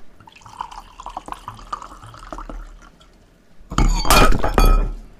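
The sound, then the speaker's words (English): Light clinks and drips trickle along, then glass suddenly shatters in a loud, bright crash with ringing shards, followed by splashing liquid and a second burst of breaking glass. “The best thing we can do is deal with the spill motion as quickly as possible and put it behind us.”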